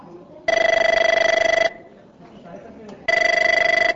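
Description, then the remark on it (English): A phone rings twice on the line as a customer in the United States calls his local phone company's help number, answered at a call centre in India, each ring a long, loud, buzzy trilling burst separated by a pause, with faint background murmur in between. “An impatient customer in the United States wants his phone line connected, so he calls the help number at the local phone company.”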